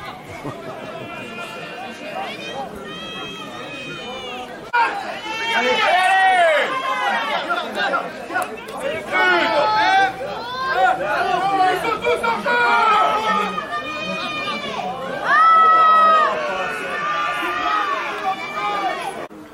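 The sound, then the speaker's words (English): A large crowd at a rugby match fills the air with overlapping chatter and raised voices, starting softer and then swelling louder after a few seconds, with occasional higher shouts rising above the din. “So here I'm watching rugby, and there's a guy here from Polynesia, and he's got the Templar's cross on his back here.”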